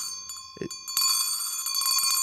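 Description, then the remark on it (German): A hand bell rings loudly, its bright metallic tone sustained while the clapper strikes repeatedly in quick succession, after a soft thump and a few hesitant faint dings. “Also eine Wissenschaft für sich, diese Glocke.”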